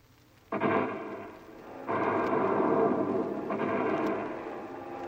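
A heavy, rumbling roar of bomber aircraft swells in three successive waves, building into a loud, sustained drone with no voices.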